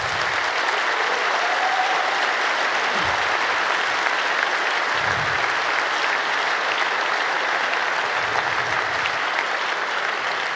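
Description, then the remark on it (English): A large audience at a Congress held at the BCC claps steadily and loudly for about ten seconds, applauding the building's employees, a dense, even wash of many hands with no voices rising above it. “Big round of applause for them, please.”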